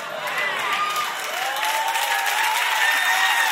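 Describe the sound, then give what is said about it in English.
An audience applauds and cheers steadily after a preacher mentions a planned sermon series called Sins with Benefits, with dense clapping and excited voices rising over it, holding loud and even throughout. “Kind of sketchy how much y'all clapped about that.”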